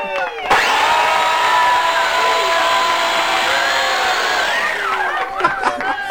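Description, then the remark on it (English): A blender motor kicks in abruptly and roars with a steady, high-pitched whine for about four seconds, then winds down as its pitch drops, followed by a few brief scattered sounds. “Time now for that part of the show where we shove jovial, horse-faced comedian Michael McIntyre's face into a blender.”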